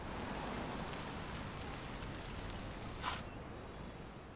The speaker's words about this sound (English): A short car ride later, the two stand at the entryway of one of New York's most luxurious buildings, the New Horizons headquarters. There's a light rumble in the sky above as rain begins to trickle down.